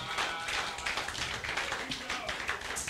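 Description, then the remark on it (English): An audience claps for the Lord as a clap of faith, a steady, dense patter of many hands sustained at an even loudness for a few seconds, with a faint murmur of voices mixed in. “Men, you are not giving the Lord a clap of faith.”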